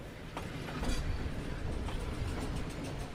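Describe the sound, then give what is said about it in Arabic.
A passenger train bound for Medina starts moving smoothly after passengers board and the doors close, rolling along the rails with a steady low rumble and faint rhythmic wheel clacks every second or so. The noise builds slightly at the start, and no one speaks. “صعد الركاب وأغلقت الأبواب، وتحرك القطار بنعومة كالسحاب.”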